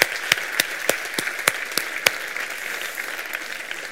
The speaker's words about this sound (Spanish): Y antes de nada, quería que todos los que estamos aquí nos demos un aplauso porque hay gente que le interesa emprender y gente que está emprendiendo.